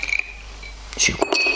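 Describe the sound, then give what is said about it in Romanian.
Ice cubes clink into a whisky glass in a few quick knocks near the end, following a stretch of steady, high, cricket-like background chirping. “Și cu gheață.”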